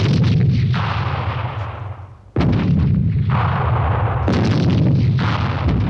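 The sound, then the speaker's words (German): Heavy cannon fire and rolling gunfire boom continuously, one big blast cutting through around the midpoint and another later, loud and dense with a rumbling low end, no voices present. “Gewehre und Kanonen hatten Ritterausrüstung, Turniere und Zweikämpfe verdrängt.”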